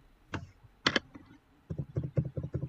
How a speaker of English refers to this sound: Also, I have a freaking HP. Like, I thought, I was like, oh, wow, this is a new computer. I'm like, oh, this keyboard's kind of quiet. Yeah, well, not when it's directly next to your microphone.